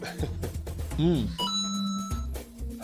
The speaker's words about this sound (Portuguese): Para de apitar o telefone, olha só.